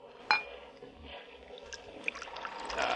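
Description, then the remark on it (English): Wine pours steadily into a glass at a dinner table, opening with a sharp clink and a bright splash, then a rising gurgle as the glass fills up, moderately loud. “Your glass, Laura? Yes, thank you.”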